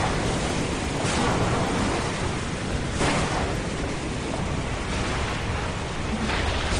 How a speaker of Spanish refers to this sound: Llueve con fuerza en varias zonas de la región, lluvia acompañada de truenos y de relámpagos que mantiene a la comunidad en alerta hasta las 10 de esta noche.